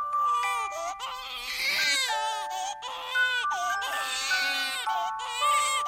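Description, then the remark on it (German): A baby cries loudly, wailing in long, strained bursts separated by brief catches of breath, with faint steady tones humming underneath. “Das fängt schon beim Baby an, sagt er.”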